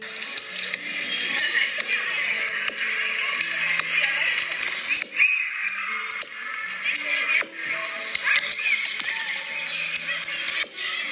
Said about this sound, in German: So hört es sich an, wenn Kinder im Park spielen.